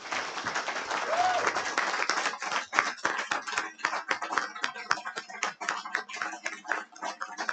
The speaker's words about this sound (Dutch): En dat is een applaus waard.